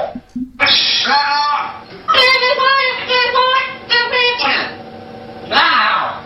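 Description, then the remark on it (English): A parrot mimics human voices in a run of garbled, speech-like phrases, switching between a lower man-like tone and a higher woman-like pitch, loud and choppy with brief pauses. “It's doing the guy and the girl voice.”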